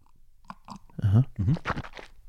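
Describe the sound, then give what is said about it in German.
Wet mouth noises of someone sipping tea: a few soft lip clicks, a couple of low voiced hums, then short breathy slurps that end in quieter smacking. “Trink mal noch einen Schluck von deinem geilen Tee”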